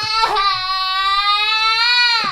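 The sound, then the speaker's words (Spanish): A person imitates a child crying: one long, steady wailing cry lasting about two seconds, loud, with a brief catch at the start and no other talk. “Escuchas al fondo un niño que”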